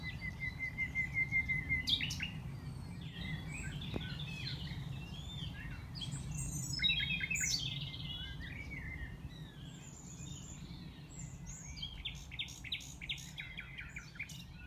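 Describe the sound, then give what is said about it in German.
Nightingales sing in rich, varied phrases of whistles, trills and rapid chirps, continuing throughout over a low, steady outdoor rumble, with no voices. “Ich persönlich würde allerdings am liebsten in der Bossee übernachten, einer abgelegenen Hütte aus Zedernholz, und dort im Vorpolsterbett unter der dicken Daunendecke dem Gesang der Nachtigallen lauschen.”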